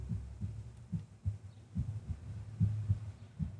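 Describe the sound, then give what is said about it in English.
Muffled, low heartbeat thumps picked up by a microphone placed on the throat, pulsing steadily about every half second, internal-sounding, over a soft constant hum with no voices. “You even have a remnant of the heartbeat on the recording because of the of where we put the mic on the throat.”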